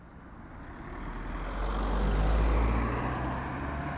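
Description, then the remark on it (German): A car approaches and passes outside the Hotel Ego King, a former motel, with a deep engine rumble that swells to a peak and then fades, set against steady road traffic noise, with no voices. “Autos sind her und weggefahren.”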